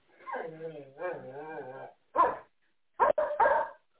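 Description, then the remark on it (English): Dogs vocalize loudly: a long, wavering whine-like cry for about two seconds, then a few short, sharp barks in quick succession. “And dogs are getting awful mouthy.”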